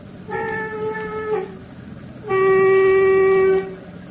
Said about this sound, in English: Get ready, Captain Lawson, to blow your foghorn. 2 blasts.